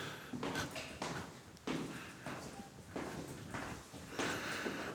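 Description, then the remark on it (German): Steady footsteps climb a narrow, steep staircase in the staff area of a former telecommunications depot building. Each step is a hollow thud landing in an even rhythm, about one per second, over a faint background. “Ja, hier gibt es eine schmale, steile Treppe.”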